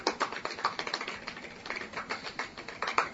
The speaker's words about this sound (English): Golf clap. Golf clap.